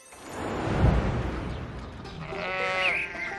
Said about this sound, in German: Tja, das ist Rocco, das Schaf vom Nachbar. Manchmal blökt der morgens so laut